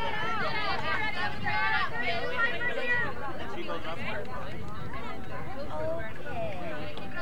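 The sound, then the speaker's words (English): A steady wash of crowd chatter fills the stands at a ballgame featuring Litchfield, many overlapping voices blending into a constant murmur with no single speaker standing out, holding an even loudness throughout. “Nice crowd on hand today.”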